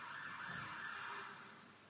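An ambulance siren wails steadily at a distance, a continuous high tone drifting past and easing slightly softer toward the end, with faint traffic rumble beneath.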